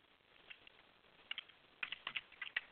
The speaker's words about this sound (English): Typing this right now.